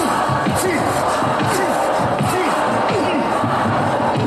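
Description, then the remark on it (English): A recorded crowd cheers loudly and without a break, a dense roar of many voices with overlapping shouts and whoops rising and falling throughout. “the caption people have stated in parentheses, people cheering on tape.”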